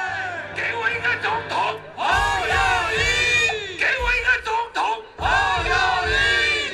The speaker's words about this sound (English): You can hear the guy on stage, he's saying, "Give me a president," and the crowd is saying, "Ho Yo Yi," which is the name of the presidential candidate. He's basically chanting that over and over again.